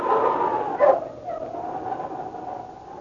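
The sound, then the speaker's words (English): A small mongrel dog gives a single sharp bark, surrounded by a drawn-out whining tone that trails off, with no voices present. “A small mongrel dog sat beside his chair, looking at him expectantly.”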